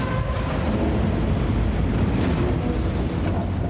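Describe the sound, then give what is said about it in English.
A controlled demolition explosion, set off with explosives placed in a series of holes in collapsed bridge wreckage to free a ship: a heavy, continuous roaring rumble that stays loud and dense throughout, with no distinct pauses and no voices. “We were telling people it wasn't going to be, as you see in the movies, a big explosion, but at the end of the day, it turned out to be a pretty big explosion.”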